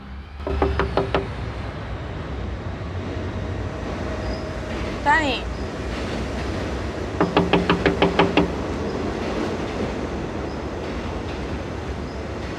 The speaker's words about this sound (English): Daytime, and she knocks on his front door.